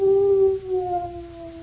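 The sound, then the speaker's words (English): A gloomy dog lets out a long, mournful howl, one sustained wavering note that drifts slightly lower as it fades, heard alone. “And because Jimmy was so gloomy, Jimmy's dog felt gloomy, too.”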